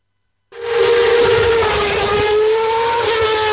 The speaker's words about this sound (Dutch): Dat is Max Verstappen, die zojuist met een Formule 1-auto door de straten van Rotterdam reed.